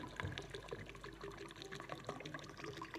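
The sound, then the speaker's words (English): Ordinary still water pours steadily from a bottle into a big glass, a continuous splashing and gurgling stream with small bubbly glugs throughout, no voices. “I've got a bottle of water, and we're going to fill this big glass up with it.”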